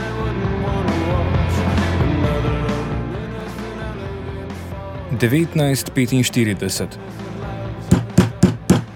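Fists pound on a back door: a burst of heavy thuds, then four loud, evenly spaced blows at the end, following a stretch of sustained tonal background sound.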